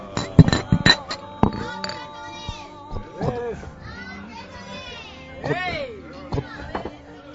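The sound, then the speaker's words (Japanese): Several bright glass clinks ring out close together at the start as a toast is made, their tones lingering briefly, followed by lively overlapping voices and chatter. “乾杯、 はい、乾杯。”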